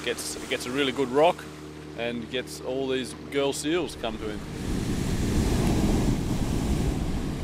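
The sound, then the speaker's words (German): A voice talks over a steady engine drone, then a loud, continuous rush of rough sea water and wind washes in and fills the last few seconds as the boat slams hard onto the waves around a sea lion rock. “Um den Seelöwenfelsen herum ist das Meer rau. Das Boot schlägt hart auf die Wellen.”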